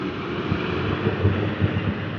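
A heavy diesel trash truck engine rumbles steadily at a back gate, a deep, continuous drone with faint low thumps pulsing through it.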